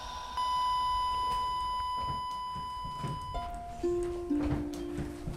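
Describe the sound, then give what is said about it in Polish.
A small wristwatch alarm sounds alone, first holding one steady high beep for about three seconds, then stepping through a few lower tones like a simple tinny melody, fairly quiet. “To jest ten zegarek.”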